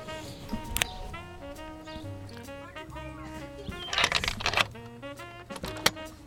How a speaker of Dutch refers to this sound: Ik hoor een sleutel in het slot, maar de deur blijft dicht.